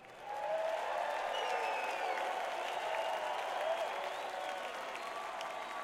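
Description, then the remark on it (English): A concert audience claps steadily for several seconds, giving themselves a hand at a music performance, a dense, sustained wash of applause that swells quickly at the start and holds at a fairly even level, with faint voices and a few whistles mixed in. “Give yourselves a hand.”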